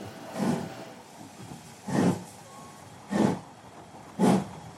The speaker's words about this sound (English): There is no invention of the mind and hand of man that is as fascinating as the external machinery and the rhythmic sound of a steam locomotive.